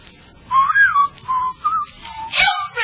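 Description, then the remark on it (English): A person whistles a short, wavering tune, several clear sliding notes rising and falling in quick phrases, with a faint low rumble underneath and no talking. “Sharp whistle. Go outdoors and whistle in the street.”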